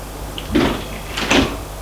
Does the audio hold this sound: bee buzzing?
no